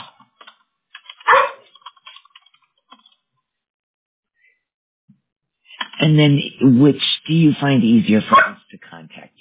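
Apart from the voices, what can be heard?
dog barking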